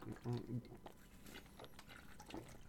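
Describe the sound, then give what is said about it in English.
Water pours in a soft, steady trickle as a person drinks water, with faint gulping or sipping sounds mixed in and a brief low vocal murmur near the start. “But if I'm going to pause and go theatrics and drink and I yuck it up, it works. So hold on. I need water because you got to hydrate.”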